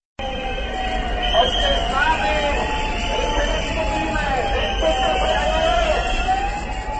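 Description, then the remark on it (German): A dense crowd roars steadily at a trade union protest march near Pavlov Square in Prague, Czech Republic, on Thursday morning, with shrill whistles and wavering siren tones rising and falling above the constant hubbub throughout. “Pfiffe und Sirenen waren am Donnerstagmorgen unweit des Prager Pavlovplatzes zu hören.”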